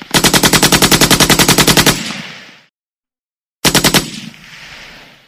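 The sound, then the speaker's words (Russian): A Colt .45-caliber revolver fires a long, rapid volley of loud gunshots in an even rhythm for about two seconds that rings out, then after a pause, once reloaded, a second short burst of shots cracks and fades, with no voices. “И зарядил Иван кольт, и снова.”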